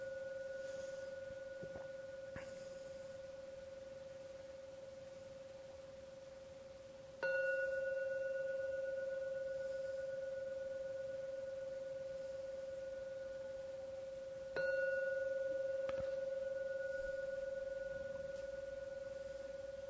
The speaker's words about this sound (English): I'm going to ring the gong 3 times. Please listen to every sound of the gong. Let the last sound come out from your meditation.